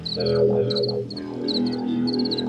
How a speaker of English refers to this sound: So I kind of dumped them onto the edge of the tracks and it didn't work, but I released like 500 crickets into the subway station, hoping that they would make it nicer.